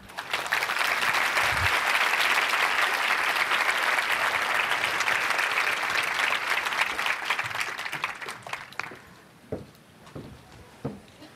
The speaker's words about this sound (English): Let's give her another hand of round of applause.